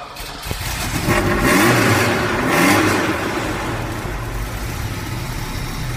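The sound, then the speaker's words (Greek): A Ferrari Mondial sports car engine, the car from Magnum PI, revs loudly, surging twice in quick succession before settling into a steady, throaty rumble; no one speaks. “Το Detective, ναι, το αυτοκίνητο που είχε ήταν το. Ferrari Mondial.”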